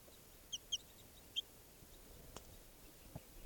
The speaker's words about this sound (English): And the wild bird has come down here in the camp, and it's about 6 feet away from me next to the truck here, looking down at some captives I have. And it just flew up to a tree branch, and it's a juvenile bird.